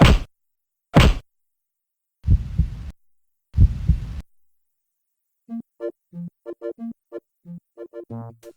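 Four heavy thumps of a heart massage, Max working on Sam, land in a slow, uneven rhythm, then a pause, followed by a quick run of short, pulsing tonal beats as the heartbeat restarts.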